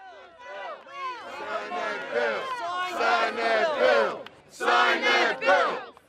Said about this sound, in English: On Saturday, hundreds of Rockaway residents and their supporters marched down a one-mile stretch of the storm-ravaged coastline. The crowd passed street after street of flood-damaged homes, piles of garbage, and pieces of a destroyed boardwalk